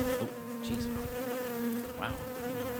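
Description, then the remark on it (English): A steady buzzing of a bee drones continuously with a sustained tone, wavering slightly in pitch as it hovers, with no voices present. “We need to take a look at this bee problem.”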